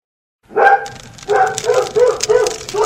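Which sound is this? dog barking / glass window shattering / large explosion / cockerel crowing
dog barking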